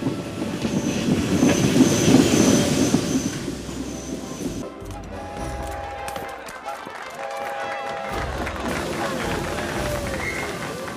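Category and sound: vehicle, train arriving on rails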